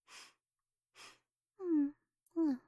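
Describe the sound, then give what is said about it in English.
A maid sniffs her young master's worn, dirty clothes: two short, breathy sniffs a second apart, followed by two drawn-out voiced sighs or hums with a falling pitch, louder than the sniffs. “Just one little sniff won't hurt.”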